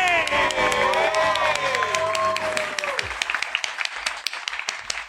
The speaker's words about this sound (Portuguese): Chama de palmas para você!